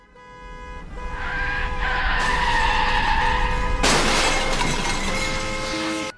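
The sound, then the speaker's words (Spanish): A loud, sustained tire screech from a skidding car builds for several seconds, then a sudden harsh crash with glass shattering bursts in near the end. “Fue atropellado por un coche mientras regresaba a casa con su moto.”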